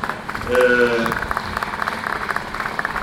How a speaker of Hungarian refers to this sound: A belső párbeszédről ez egy tapsot megérdemel, valóban.